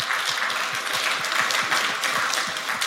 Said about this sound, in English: We have auto-formatting enforced on all NIX files and some non-NIX files. So this is huge. Yeah, round of applause.